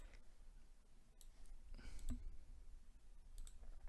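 A handful of quiet, sharp computer mouse clicks spaced irregularly over a low background hum, each one brief, with no talking, as someone clicks near the bottom of the screen.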